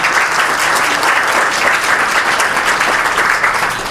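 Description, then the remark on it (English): Steady, loud audience applause for the head of a fair's organizing committee: dense, crackling clapping from many hands fills the whole four seconds at an even level, easing off slightly at the very end, with no voices. “So I think a round of applause for Sandy is good.”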